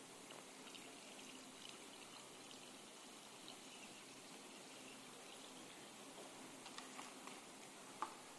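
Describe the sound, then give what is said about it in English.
Water pours steadily into a container, a soft continuous trickling hiss lasting several seconds, with a few light splashes and knocks near the end. Fairly quiet, with no voices. “What it means, let me just pour this water in.”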